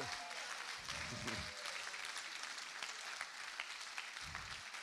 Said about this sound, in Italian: Mostrate un po' più di entusiasmo, fate un applauso al re.